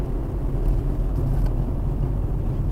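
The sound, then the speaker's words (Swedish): A car's engine rumbles low and steady as the vehicle is slowly manoeuvred into a parking spot at home, next to a neighbour's parked car, with no voices over the drone. “Så vi ser om han har parkerat så jag kan parkera också.”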